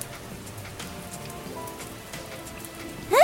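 Heavy rain pours down in a steady, unbroken hiss of drops striking a surface, with a brief rising squeak near the very end and no voices.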